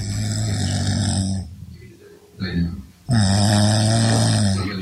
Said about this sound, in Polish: jak myślisz, kto tak chrapnął? Kobieta. Kobieta! Brawo! Paweł nagrał swoją żonę